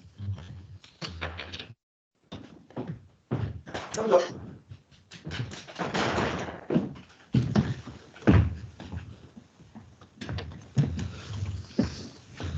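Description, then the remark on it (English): A door is opened to let a dog in, with a few clunks and rattles breaking up intermittent talking throughout. “hang on, I was going to let the dog in, wait then.”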